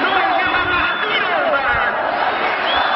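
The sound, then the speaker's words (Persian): A large stadium crowd roars continuously, a dense wash of many voices shouting and cheering together at steady, loud volume with no pauses. “این صدایی که میاد به نظر باید از ورزشگاه باشه.”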